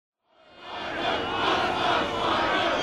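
A large soccer crowd erupts into loud, sustained cheering and roaring as a goal is scored for the Ducks, swelling quickly from silence and holding a dense, continuous wall of voices with no individual speech.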